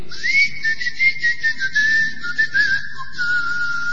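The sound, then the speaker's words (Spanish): Someone whistles one long, steady note that drifts slightly downward, then drops to a lower pitch near the end, over a soft hiss and low background rumble. “Lo único que le gustó fue que Edward Kelly Talbot chiflaba para hablar con los ángeles.”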